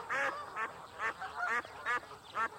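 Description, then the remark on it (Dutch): Ducks quack loudly in a quick, repeated series, about six harsh nasal calls spaced roughly half a second apart, with no talking. “Hij moet de kippen en eenden uit de koeienstal jagen.”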